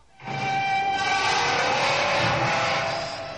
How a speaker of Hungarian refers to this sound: Fülsértő csikorgás.